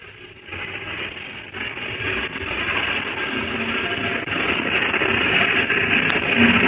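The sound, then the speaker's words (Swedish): A steady wash of midday traffic on Engelbrektsplan square in Stockholm in the early 1940s, cars swishing past, trams rumbling by and large yellow Ulriksdal line buses pulling in to their terminus, a continuous, fairly loud roar that swells slightly as it goes on, with no voices. “Bilar susar fram, spårvagnar rastar förbi och Ulriksdalslinjens stora gula bussar kommer in till sin sluthållplats.”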